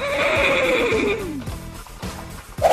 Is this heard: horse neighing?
yes